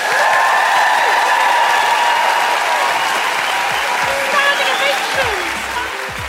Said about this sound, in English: Do join me, please, in giving the most roof-raising round of applause to the utterly brilliant Catlin Moran.